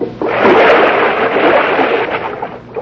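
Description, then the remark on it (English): A loud, sustained splash and sloshing of water as someone drops from a window into a rain barrel, churning for a few seconds before tapering off. “Doggone it. Left that rain barrel there.”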